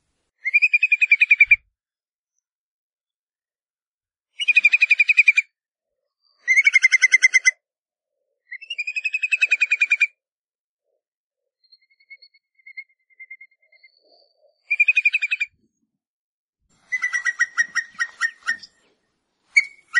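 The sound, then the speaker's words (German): Whimbrel calls in Iceland: a series of rippling, whistled trills in bursts of a second or two, repeated about eight times with short pauses, a few fainter notes between, and no voices. “Falls wir es richtig herausbekommen haben, so sind die fröhlichen Gesellen Regenbrachvögel.”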